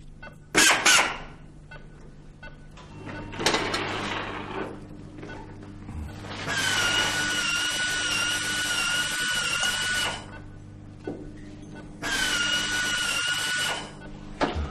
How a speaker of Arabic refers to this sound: مثقاب.